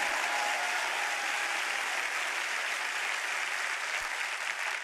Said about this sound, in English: You clap louder than that.